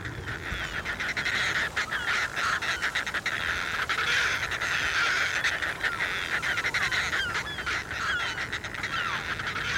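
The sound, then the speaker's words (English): A dense chorus of fulmars calling, harsh cackling and grunting cries overlapping continuously at steady loudness, like a busy seabird colony, with no voices. “Fulmars from Scotland have been tracked practically all the way into the middle of the Atlantic.”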